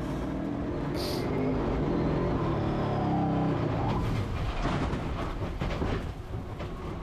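A car rolls along slowly, a steady low engine rumble and road noise holding for about seven seconds, with a brief high hiss near the start and no one talking.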